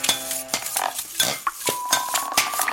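Bright metallic clinks and taps of glassware and silverware played as a kitchen band, several sharp strikes in a loose rhythm, with a high ringing ding that hangs on after one hit. No voices.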